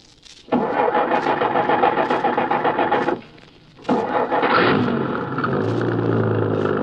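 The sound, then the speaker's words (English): A truck engine roars loudly, drops away for a moment, then revs back up and settles into a steady, low rumbling drone as the truck is driven. No one speaks. “We're getting into that truck.”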